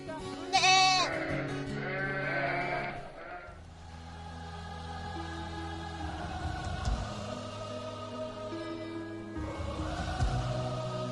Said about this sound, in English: Sheep know their shepherd. And when he calls, they listen.